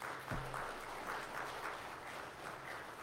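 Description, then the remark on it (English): A church audience on Palm Sunday morning applauds the musicians, choir and accompanists steadily, with a dense, even patter of many hands clapping at a moderate level and no voices standing out over it. “Let's have another round of applause for our musicians today.”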